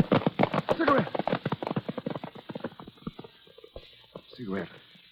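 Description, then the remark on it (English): Rapid, rhythmic horse hooves pound loudly at first, then thin out and fade over a few seconds as a rider falls from the horse, followed by a brief vocal cry near the end. “If you don't stop, I'll have to lift you off your horse.”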